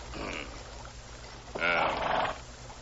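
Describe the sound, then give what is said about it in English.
A horse wearing a side saddle whinnies once, a loud, wavering call of under a second, preceded by a softer animal snort against a steady low background rumble. “Horse up ahead. There's a side saddle on it.”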